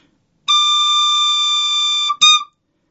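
A single organ pipe, voiced so that its partial tones are more pronounced, is blown, sounding a steady, bright, slightly raspy tone with prominent overtones for about a second and a half, then a brief second puff of the same note.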